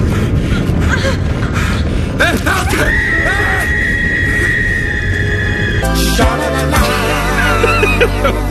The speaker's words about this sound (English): So, woman falls to her death there. You hear the screaming.